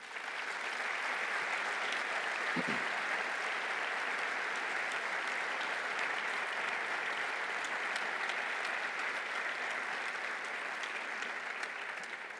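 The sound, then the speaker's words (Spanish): An audience at the Valladolid Local Police merit medals ceremony claps steadily and without pause for about twelve seconds in homage to fallen officer Luis Eduardo Izquierdo. It is a dense, even wash of many hands at a constant moderate loudness, with no one speaking over it. “un especial homenaje también a Luis Eduardo Izquierdo, un compañero, miembro del Cuerpo de Policía Local de Valladolid, fallecido en acto de servicio en agosto, para el que pido también otro aplauso.”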